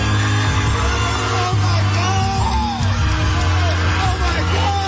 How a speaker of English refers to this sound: Oh, this guy's freaking out. I'm like, that's not either one of them, is it? Yelling, oh my God.